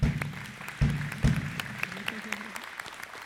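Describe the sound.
An audience applauds in thanks to the leader and team. The clapping is steady and dense and holds at a moderate level for a few seconds, while a voice briefly rises underneath it early on.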